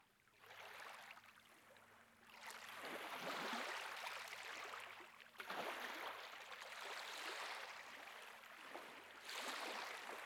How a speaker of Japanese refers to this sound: そう、波の音さ。脳波を正しく測定するには君自身をリラックスさせる必要があるからね。その点、波の音は最適解と言えよう。知ってるかい？波の音が好まれる理由の一つに、母親の体内音によく似ているからというものがあるんだ。